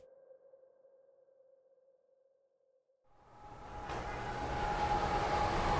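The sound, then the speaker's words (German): A steady electronic tone hums for a few seconds, then a train rolls into Penn Station in New York, its rumble growing louder with a thin metallic squeal over it. No one speaks. “Um dem Verkehr in New York zu entgehen, bin ich mit einem Zug in die Stadt gefahren.”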